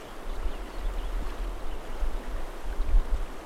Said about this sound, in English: Further down in the rapids, it's about sometime in the afternoon, 4:05 p.m. And we just ran rapid 5. You could hear it roaring in the background.